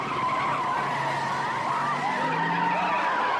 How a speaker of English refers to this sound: The mob runs away from the police car, which makes a quick getaway.